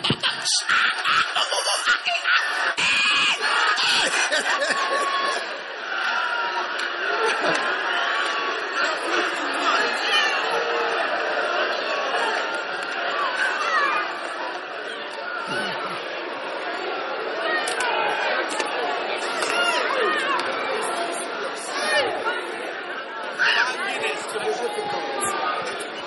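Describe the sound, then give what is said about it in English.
A large crowd of people shouting and screaming all at once, a dense, continuous roar of overlapping voices with bursts of laughter, loud throughout. “giggling, making noise, ooze, ass, screams, shouts, banging, scratching, all kinds of.”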